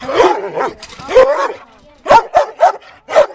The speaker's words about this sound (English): Despite this one ferocious-sounding dog, who was fenced in,